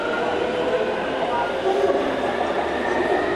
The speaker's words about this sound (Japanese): 今僕が降りた地下鉄は元気よく走っていきましたけど